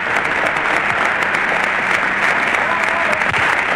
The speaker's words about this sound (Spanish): Prolongados aplausos de emoción, de alegría y también de despedida a quien nos mantuvo la moral en alto.